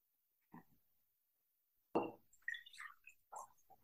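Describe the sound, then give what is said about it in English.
Water is poured from one glass into a second glass as a ritual, coming in a few short splashy bursts with gurgling, rising glugs rather than one steady stream. No one speaks. “So right now you're going to ritualistically pour your water into your new timeline glass.”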